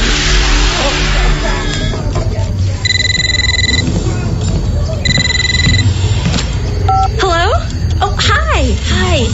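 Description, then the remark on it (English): A telephone rings twice in short electronic bursts, cutting through a busy, noisy background of a television playing, with voices and warbling, swooping electronic sounds. “can you please turn down the TV? I'm on the phone.”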